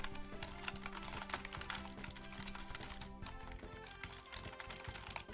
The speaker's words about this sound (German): Und übrigens, der tippt nicht einfach nur sinnlose Sachen, der löst damit echte Aufgaben.